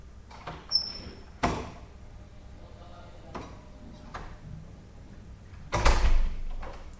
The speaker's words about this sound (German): Missmutig öffne ich die Türe.